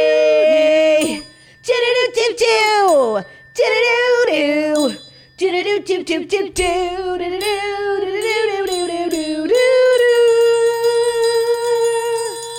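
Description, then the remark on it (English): A school bell chime rings out as a bright electronic melody of bell-like tones, some notes gliding in pitch, ending on a long sustained tone, loud and without speech. “Tell me what this sounds like. The school bell? Yeah.”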